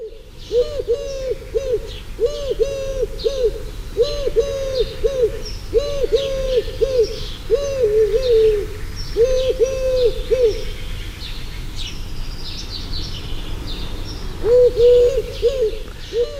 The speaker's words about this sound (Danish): Ja, det var jo tyrkoduen. Jeg synes, der gik lidt galt undervejs, men det kan være, at den lige blev distraheret af noget, og så der kom uorden i kukuppen.